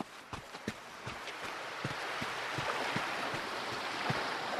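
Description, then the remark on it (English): A steady, broad wash of sea surf at sunrise that swells slightly louder over time, with sharp knocking steps or clicks scattered across it. “After what sometimes felt like an eternity of straining, I have reached the sea.”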